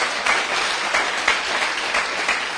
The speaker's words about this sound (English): Clap your hands for the reward of Jesus Christ.